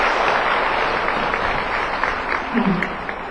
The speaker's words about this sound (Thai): เสียงปรบมือดังกระหึ่มร่องประชุมนะคะคงบอกได้ว่าช่วงเวลาที่ผ่านไปตามความประทับใจท่านผู้เข้าถึงห้องประชุมมากเพียงใดนะคะ